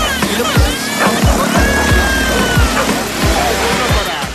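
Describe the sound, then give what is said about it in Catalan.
A loud, steady roar of street traffic heard through an opened window, with rumbling passes and rhythmic thumps from tires, plus faint whining engine tones, continuous with no talking. “És un rugit tremendo.”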